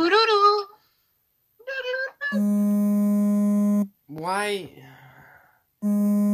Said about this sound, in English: I'm getting a phone call. I don't want to answer. I can hear your phone vibrating.